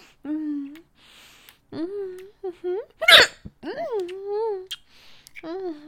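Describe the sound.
A series of close, voiced hiccups comes in irregular succession, each a short squeaky upward yelp, with one sharper, breathier hiccup in the middle and brief quiet gaps between.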